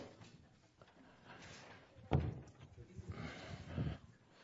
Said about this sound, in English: Door. Thank you.